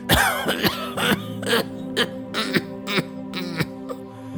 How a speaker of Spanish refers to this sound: Se disponía a contestar cuando le sobrevino un ataque de tos seca.